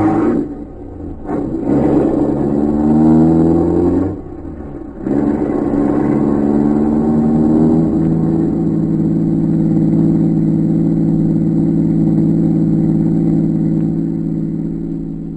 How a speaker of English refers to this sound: Watched the car as it pulled away.